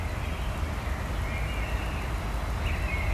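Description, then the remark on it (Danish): A dense, continuous outdoor chorus of birds chirping in the morning at the speaker's mother's home, with a few drawn-out whistling calls rising above a steady wash of background noise, with no talking. “Fugle, der går amok.”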